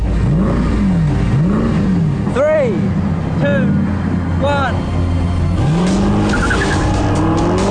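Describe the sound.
An all-electric green SLS races a gas-powered SLS with a 6.2-liter V8, loud: a deep engine roar surges through repeated rising whines as they accelerate, with tire squeal mixed in. A voice briefly counts down at the start.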